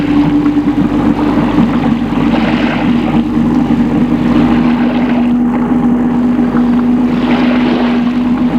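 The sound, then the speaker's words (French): A small boat's white outboard motor drones steadily and loudly throughout, with a constant low hum and a rough, buzzing texture, as the boat is started in the harbour at Nice, France. “Un joli petit bateau, un moteur tout blanc. Ils embarquent et mettent le bateau en marche.”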